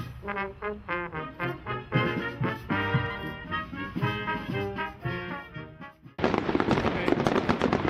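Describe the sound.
A voice speaks for several seconds, then cuts abruptly to a loud, dense burst of crackling fireworks at an evening celebration, a rapid popping and sizzling that fills the final couple of seconds.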